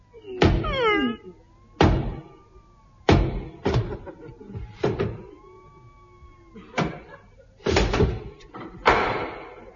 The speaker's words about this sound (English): Ah, a door. O'Brien, lay out my knocking on door suit. Now, lift me up and I'll knock.